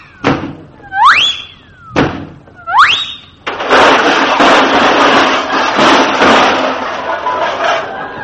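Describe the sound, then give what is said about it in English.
A cartoon-style crash of someone trying to go through doors locked with Yale locks: two sharp thumps, each followed by a rising whistle-like slide, then a loud, sustained crashing clatter lasting several seconds. “Watch me go through these doors.”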